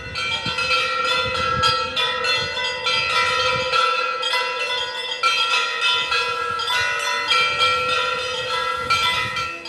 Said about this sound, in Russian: После совершения последования искусством колокольного звона порадовал присутствующих звонарь Виталий Водриганов.